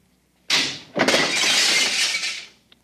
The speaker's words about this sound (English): Oh, how careless of me. I seem to have broken the cooling tubes. Cooling fluid all over the floor.